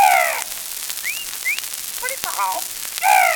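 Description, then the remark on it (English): Loud, harsh squawks of a South American parrot at the start and end, with shorter rising chirps and scattered clicks in between, fairly loud with no one talking. “And the wonderful South American parrot.”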